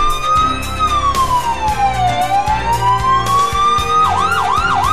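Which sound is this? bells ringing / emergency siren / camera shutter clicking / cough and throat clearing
emergency siren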